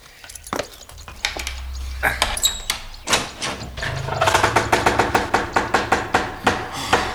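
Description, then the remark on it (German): A door is unlocked and opened: a series of sharp metallic clicks and wooden clunks over a low rumble, then a rapid, regular rattle of small knocks toward the end. No one speaks. “So, ich werde mal aufschließen.”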